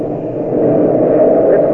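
A loud, steady engine drone rumbles continuously as a propeller plane with apparent motor trouble passes overhead above Caribou during a storm, heading over a hill, its low roar swelling slightly toward the end with no voices.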